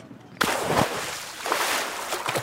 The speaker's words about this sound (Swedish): Sen springer han ut på bryggan och kastar sig i vattnet.